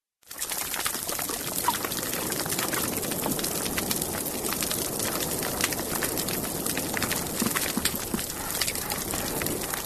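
Fish chew on coral on a healthy reef, a dense, steady wash of crackling, grinding clicks and scrapes that never lets up, with no voices.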